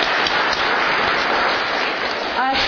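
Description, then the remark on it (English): A crowd applauds the women working in the kitchen, a dense, even wash of many hands clapping that holds for the whole stretch, with a brief voice rising out of it just before the end. “Maybe we could give them a hand of applause.”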